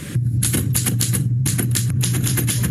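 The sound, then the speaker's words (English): Rapid mechanical keystrokes clatter in a steady, uneven rhythm from an old school typewriter, over a constant low hum; used to pose the questions in a Meet the Candidates segment with Grand Rapids mayoral candidate Haley Lynch Bastion. “They, for production purposes, they have this old school typewriter that's asking the questions.”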